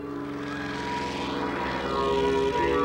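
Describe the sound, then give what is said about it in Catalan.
A propeller light aircraft drones steadily overhead, its engine loud and continuous with a buzzing harmonic tone that swells slightly as it passes, no voices present. “L'avioneta continua volant per damunt d'en Goku.”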